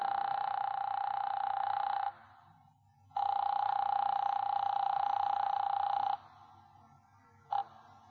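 A 15-cent telephone call rings through the line in two long, steady buzzing tones separated by a pause, then a third ring is cut off almost at once. No one speaks.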